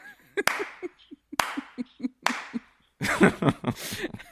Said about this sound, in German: Ja, klatschen.